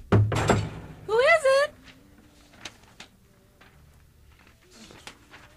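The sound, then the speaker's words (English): A door is knocked on, loud thudding raps right at the start, followed by a brief vocal-sounding squeal and a few softer, scattered taps. “Oh, just a minute. Yeah. The door is behind a door.”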